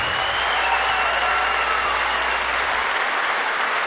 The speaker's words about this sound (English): Put your hands together one more time for Jamie the Wolf.